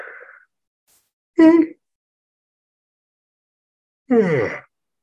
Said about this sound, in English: After I yawn again.